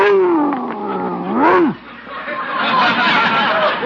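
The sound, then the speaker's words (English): A Great Dane puppy weighing 140 pounds growls loudly, a deep rumbling snarl that rises and falls in pitch, briefly breaks off, then continues as a rougher, sustained growl. “He's a Great Dane.”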